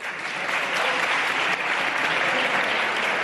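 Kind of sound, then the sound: crowd, parliament members applauding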